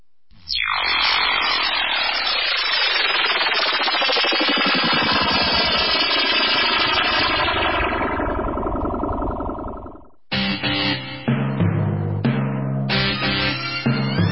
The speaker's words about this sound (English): The drone shall set you free!